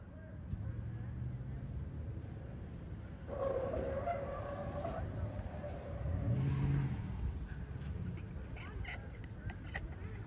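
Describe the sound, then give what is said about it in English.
A car engine revs hard in bursts, its pitch rising and falling while the car stays put, unable to advance because its tire is broken, with scattered voices and commotion in the background. “But now the car cannot advance anymore. Tire is too broke.”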